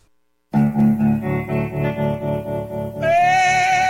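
After a brief silence, an effects-laden electric guitar kicks off a rock song intro with steady pulsing chords, then shifts to a brighter, sustained higher note near the end. No voices.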